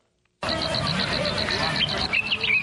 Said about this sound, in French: Une brise légère et les sons des oiseaux qui l'accompagnent sur la colline de Murambi, au sud du Rwanda, où est érigé un mémorial du génocide des Tutsis.